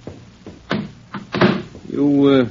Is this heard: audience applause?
no